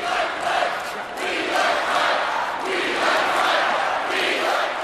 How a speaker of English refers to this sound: That is a chant, of course, for Republican vice presidential nominee Mike Pence. Maria, why'd this one stand out for you? I thought it was kind of sweet, actually. It's obviously a throwback to I Like Ike, the Eisenhower years.